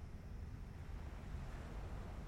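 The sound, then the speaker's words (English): Soft, steady water noise with a low rumble underneath, like gentle waves lapping in a tiny cove completely protected from the wind; continuous and calm, with no voices. “The only sounds are the burbling stream and the gentle lapping waves.”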